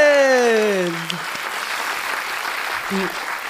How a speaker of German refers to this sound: Und Leute, brandheiße News, seid heute offiziell auf der Spiegel-Bestsellerliste. Yeah. Zum Applaus wert.